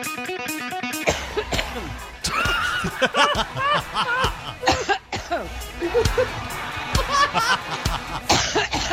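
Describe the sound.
Repeated coughs burst out in quick, irregular succession over a busy bed of sound, with voices and what seems like music underneath, fairly loud and close.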